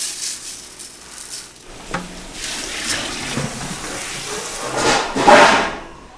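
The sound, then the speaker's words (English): Water pours steadily into a metal soup pot as a cook adds water to the soup, a rushing, splashy stream with a few clanks of cookware, swelling louder near the end before tapering off. “Anton adds water to the soup.”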